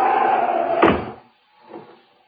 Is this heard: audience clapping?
no